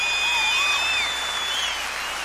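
A crowd claps steadily after a song, a dense wash of applause with a few thin, high whistles drawn out over it, holding at an even level throughout.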